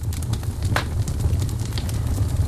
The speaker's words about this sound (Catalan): Des de fa dues setmanes, entre els 10 programes més vistos de Netflix, hi ha una llar de foc. És un vídeo d'una hora en què es veu una llar de foc amb les flames.